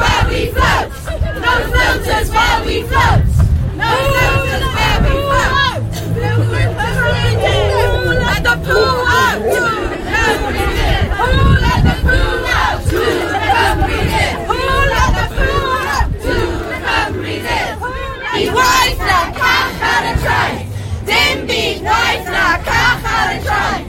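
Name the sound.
protest crowd chanting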